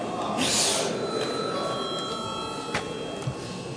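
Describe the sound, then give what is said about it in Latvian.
A bell rings continuously for several seconds in the Saeima, Latvia's parliament, rung to call the deputies, a steady shrill tone, with faint background rustling and no one speaking over it. “Deputātiem iebildumi nav, tātad tiek izsludināts pārtraukums līdz 9:40. Tātad, jā, lūdzu zvanu.”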